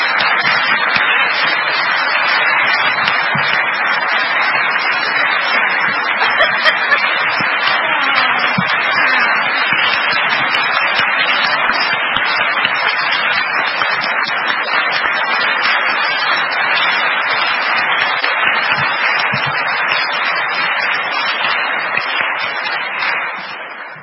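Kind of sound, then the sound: crowd, audience round of applause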